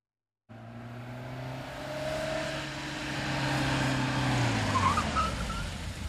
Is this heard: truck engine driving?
yes